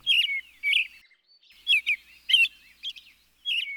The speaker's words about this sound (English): The familiar robin is the most readily recognized thrush. Its song is sometimes described as cheer-up, cheerio, cheer-up.